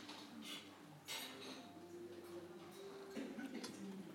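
Water drips down after rain in a series of soft, irregular ticks and plinks, quiet, with a faint low hum of voices in the background.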